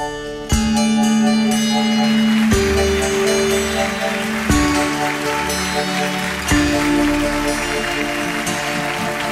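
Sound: rain falling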